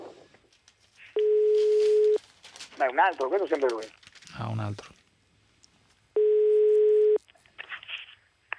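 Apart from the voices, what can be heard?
telephone line tone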